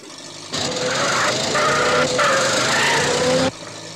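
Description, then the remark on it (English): A heavily loaded truck's engine drones and rattles at a steady, fairly loud level for about three seconds, with some squawking clutter mixed in. It cuts in and out abruptly, with no talking. “That sounds like Mr. Haney's truck. Sounds like he's really got it loaded down today.”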